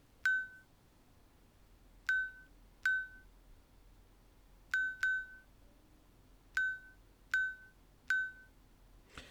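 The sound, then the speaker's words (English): A smartwatch buzzes the time, 12:03, after a one-finger double tap on its screen, counting in tens: a single beep for ten, then two beeps for twelve. It sounds a series of short, bright, high-pitched beeps, eight in all, spaced in uneven groups with pauses between them, over a faint low hiss and no talking. “So the first single beep you heard was a 10, and then it did two beeps, 1-2 for 12.”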